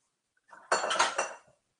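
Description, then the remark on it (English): A glass bowl, taken out to soak arame, clatters and clinks against other glass and ceramic bowls being stacked, in a brief burst of bright, jangling knocks lasting about a second, moderately loud, with no talking. “And I've got a glass bowl.”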